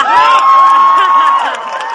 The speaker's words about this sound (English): The professor here spoke to a cheering crowd about getting all the illegal aliens to become fully documented American citizens.